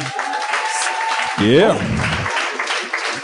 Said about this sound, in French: J'aimerais ça qu'on leur donne une bonne main d'applaudissements. Je suis tellement content qu'ils sont là. Mélanie Couture et Eddie King. Mélanie Couture. Et Eddie King, applaudissez.